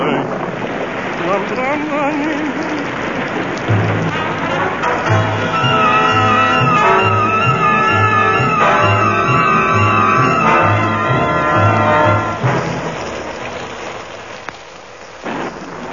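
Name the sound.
heavy rain falling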